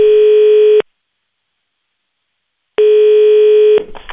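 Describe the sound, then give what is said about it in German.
A telephone ringing tone on a call to Swiss SVP National Councillor Hans-Jörg Walter sounds twice, two steady one-second beeps separated by a two-second pause, followed by a brief soft clatter as he picks up. “Bleibt noch ein Telefon, das Telefon 4. Das geht an Hans-Jörg Walter, Thurgauer SVP-Nationalrat und im 2008 schon mal fast Bundesrat geworden.”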